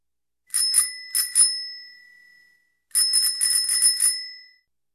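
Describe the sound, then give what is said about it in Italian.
A bicycle bell rings twice in quick succession, then after a pause rings in a longer rapid trill of five or six strikes, bright and high-pitched with a lingering metallic tone. No voices. “È una bicicletta.”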